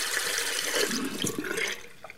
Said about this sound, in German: Für uns ist es selbstverständlich. Wenn wir Wasser benötigen, dann drehen wir einfach den Wasserhahn auf. Zum Waschen, Duschen oder Blumen gießen.